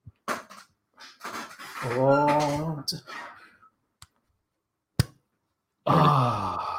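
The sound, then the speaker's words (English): Grunting, effortful vocal sounds as a bottle of 2014 L'Ancien beer is worked at, then a single sharp pop of the cap coming off, followed by a voice. “So this is the 2014 L'Ancien. I'm waiting to hear the pop.”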